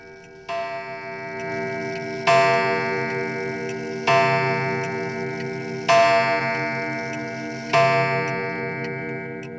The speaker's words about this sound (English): Here comes the clock again.